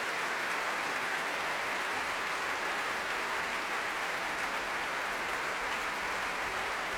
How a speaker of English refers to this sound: And standing in front of them, receiving well-deserved applause at the end of his proms debut, Jan Leschetsky from Canada.